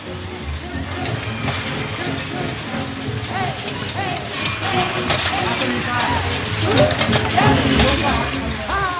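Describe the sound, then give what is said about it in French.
A dense, unbroken clatter of rolling metal balls from pachinko machines in parlor shops on Ginza Street, Japan, fills the scene, laced with ringing bell chimes and jingly electronic loudspeaker tones, steady and fairly loud with a faint murmur of voices beneath. “flânant dans Ginza Street, on passe devant plusieurs boutiques d'où s'échappe dans un cliquetis de sonnettes un roulement ininterrompu mêlé de sonorités de haut-parleurs.”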